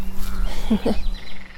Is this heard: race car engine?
no